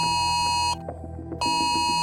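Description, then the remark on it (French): A loud, shrill emergency alert tone sounds alone, a sustained electronic chime with stacked harmonics briefly dropping to a duller tone midway. It is a French State public alert, sounded in an exercise for residents within 4 km of the former Borealis nitrogen and fertilizer site at Grandpuy. “il s'agit d'un dispositif d'alerte et d'information des populations mis en place par les services de l'État depuis fin juin 2022”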